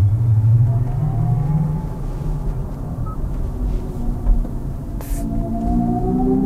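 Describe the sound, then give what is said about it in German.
An artificial engine sound for an electric car, played through speakers, plays as a steady low droning hum with layered tonal harmonics that slowly sweep upward in pitch, holding a fairly constant loudness without any talking. “Künstlicher Motorsound über Lautsprecher ist ja bereits Stand der Technik.”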